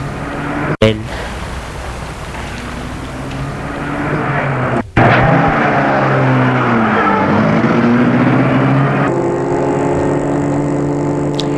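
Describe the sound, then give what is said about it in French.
A car drives steadily at night as a woman drives home, its engine droning with rising and falling pitch over continuous road noise, fairly loud, broken by two brief sharp clicks. “Tu vas prendre sa voiture pour rentrer chez elle.”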